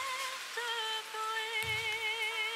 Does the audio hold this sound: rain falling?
yes